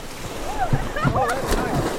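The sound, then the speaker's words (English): Water splashes as a group of kayakers jump into a river for a quick swim, with excited shouts and chatter from several voices mixed into a steady outdoor wash of moving water and wind. “But before getting back into their kayaks, one quick swim in the river they love.”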